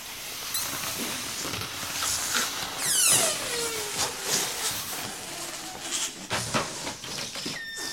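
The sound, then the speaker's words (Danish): Green balloons being blown up by those voting against bill number 165 in the Danish Parliament (Folketinget): a dense wash of breathy puffing and rubbery squeaks, with a sharp falling squeal partway through as air escapes. No one speaks. “Dem, der stemmer imod forslaget, bedes puste de grønne balloner op.”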